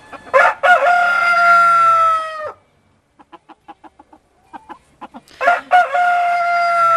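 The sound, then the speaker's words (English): A rooster crows loudly as an early morning wake-up call, a long sustained cock-a-doodle-doo, followed by a series of short rhythmic clucks, then the crow begins again. “The country alarm clock, but the early morning wake-up call by roosters is becoming something of a contentious issue in areas where rural life and farms are butting up against the urban sprawl.”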